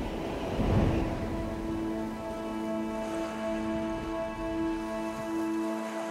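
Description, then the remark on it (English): A thunderstorm: a steady wash of heavy rain with a brief rumble of thunder near the start, then a sustained droning tone that holds beneath the downpour to the end. No one speaks. “And no place did I feel it more intensely than in that storm.”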